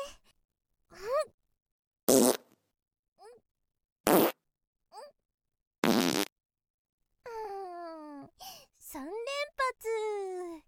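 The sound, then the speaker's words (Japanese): Several loud farts burst out one after another with short pauses between them, followed by a stretch of strained, wavering vocal noises. “なんだかこうやっていっぱいおならするのも楽しいね。”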